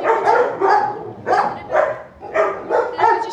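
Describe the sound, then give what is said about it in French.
Several dogs bark repeatedly in shelter enclosures where dogs are kept together, roughly seven sharp barks in quick, uneven succession, echoey and fairly loud with overlapping yips, and no one talking. “Là, on a des enclos où on met les chiens ensemble.”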